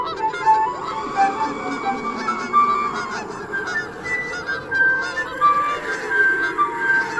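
canada geese honking

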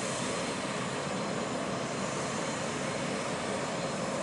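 airplane engine running

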